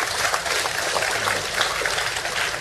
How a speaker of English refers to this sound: Thank you for applauding what Bill just said, because he has put the most extraordinary amount of personal effort into this to try, and the human side of this is the thing that drives all of us in this business to keep on trying.